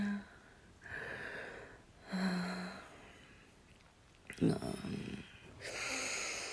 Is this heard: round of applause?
no